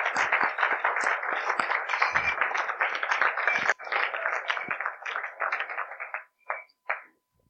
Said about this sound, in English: All right, give all of our people a round of applause.